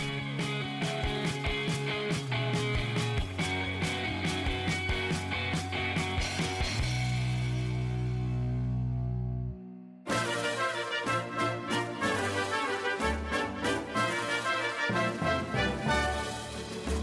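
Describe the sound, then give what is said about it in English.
Grand, swelling orchestral fanfare like Oscars music plays loud and full with no talking, as a special effect introducing the Golden Tajanis special awards of 2018. It holds a low sustained chord, pauses briefly, then surges back in. “And if all our special effects worked, you just heard some beautiful Oscars-like music because we are here to introduce to you the Golden Tajanis, the EU Confidential Special Awards of 2018”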